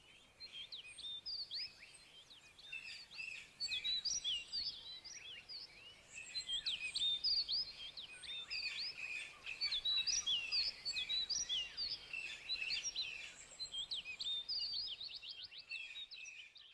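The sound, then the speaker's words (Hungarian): A busy chorus of birds chirping and singing, with overlapping high tweets and trills continuing steadily throughout at a moderate level, with no voices. “Jönnek a madarak, akik megpihennek az ágaid között.”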